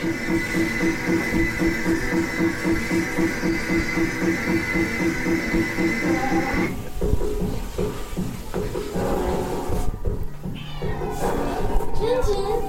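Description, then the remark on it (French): A hungry cat meows several times, its cries mixed into a steady droning hum and busy background noise at moderate volume. “Tu vas entendre des miaou peut-être à un moment. Pourquoi ? Les miaou d'un chat affamé.”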